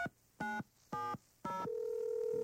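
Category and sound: signal or alarm, telephone number being dialed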